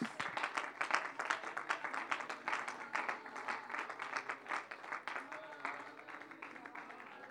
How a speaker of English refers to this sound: Praise the Lord. Why don't you give him a hand clap of praise tonight? Thank you, Jesus.